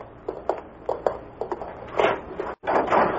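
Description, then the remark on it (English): A door is opened after a handful of soft, evenly spaced wooden taps, followed by a brief rushing, scraping swell of noise, a momentary cut to silence, then more of that noise. “I opened the door.”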